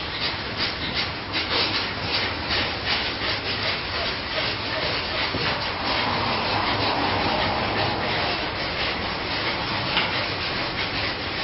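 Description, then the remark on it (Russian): Intense belly breathing during a yoga breathing exercise: rapid, forceful inhales and exhales, a steady rushing, breathy noise that pulses in quick rhythm for about eleven seconds with no talking. “Так, итак, сели, начинаем делать дыхание животом, вдохи, выдохи, достаточно интенсивные.”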